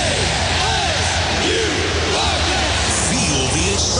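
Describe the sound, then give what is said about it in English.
A dense stadium crowd roars continuously, with overlapping yells and whoops rising out of the steady wash of loud noise throughout. “Hear the roar. Scream the chant.”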